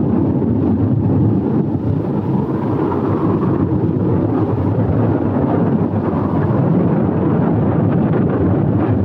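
A loud, continuous roar of stormy wind rushing and howling without pause, dense low rumbling underneath and gusts swelling slightly at times, with no voices present.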